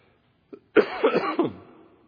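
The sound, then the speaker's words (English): A preacher coughs in the pulpit during a sermon: a short cough burst, a small throat catch, then three or four raspy coughs in quick succession that trail off, with no talking. “Yes, those of you who know, once I take a few weeks off, I come back coughing in the pulpit.”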